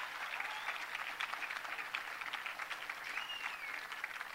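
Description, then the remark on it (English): Steady audience applause for Chief James Billy of the Seminole Tribe, a dense patter of many hands clapping continuously at moderate loudness, with a few faint whistles rising above the clapping. “Let's have another round of applause for the chief.”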